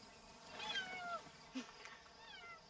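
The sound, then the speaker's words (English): A cat meows twice in a film scene, a drawn-out mew followed by a shorter one a moment later, fairly soft against a faint background hiss with no one talking. “Is that a cat in there?”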